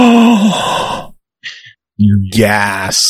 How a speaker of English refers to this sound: Gasp.